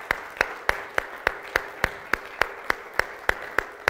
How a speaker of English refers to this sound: Isn't God good? I think we ought to give him a praise clap for that. Hallelujah.